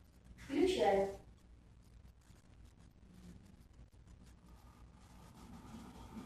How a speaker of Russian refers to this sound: Вот вы слышали, чайник зашумел.